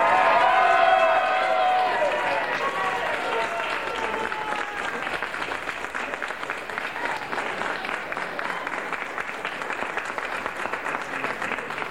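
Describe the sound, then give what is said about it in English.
A large crowd applauds and cheers enthusiastically, with dense steady clapping throughout and shrill whistles and yells rising above it in the first few seconds before settling into sustained applause. “We have a very enthusiastic crowd here, as you can hear.”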